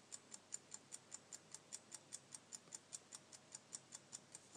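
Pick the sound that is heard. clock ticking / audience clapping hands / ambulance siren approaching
clock ticking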